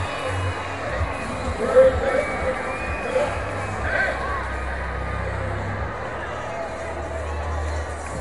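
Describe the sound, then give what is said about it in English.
A baseball crowd at a Riders home game cheers and roars after a hit by Cody Freeman in the bottom of the eighth inning, runners at the corners; a steady, dense wash of voices, with a brief louder swell early on and a low rumble running underneath throughout. “That's got the crowd involved.”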